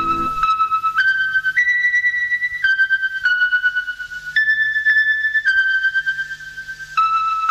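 A retro radio station interval signal: a short electronic melody of clear, steady whistle-like tones stepping between pitches, each note held about a second, played alone with no talking.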